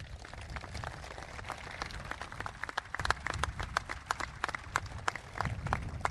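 An audience at an event for John Deere's new marketing center in Olathe, Kansas breaks into applause: many hands clapping in a dense, steady patter that holds for about six seconds, with sharper individual claps standing out toward the end. No one speaks.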